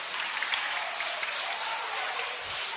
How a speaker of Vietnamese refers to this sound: Lên làm quan, chúng ta cho một tràng pháo tay hoan hô ông Giuse.